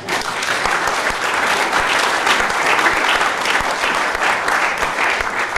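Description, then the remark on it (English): Steady audience applause fills the whole stretch, a dense, even roar of many hands clapping at a loud, constant level with no voices breaking through. “They have never, incidentally, and you can applaud this one if you want, they have never, any of them, been identified or apprehended.”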